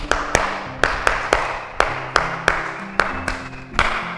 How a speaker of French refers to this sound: Très bien! Applaudissons!